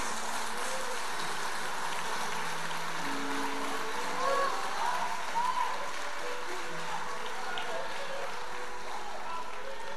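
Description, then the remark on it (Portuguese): A large crowd claps steadily in a dense, continuous wash of applause lasting the whole stretch, with a few scattered voices calling out faintly beneath it. “Não, você vai aplaudir, aplaude direito, vai lá.”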